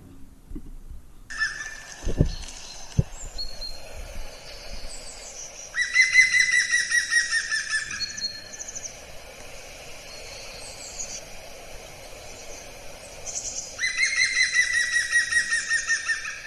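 A woodpecker gives two loud, rapid series of ringing call notes a few seconds apart, over steady background birdsong, with a couple of dull knocks early on.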